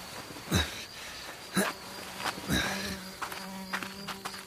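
A low, steady fly buzz hums, wavering in pitch, broken earlier by three soft thumps spaced about a second apart. Quiet overall, with no voices.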